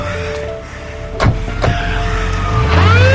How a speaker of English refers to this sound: A squad car pulls up.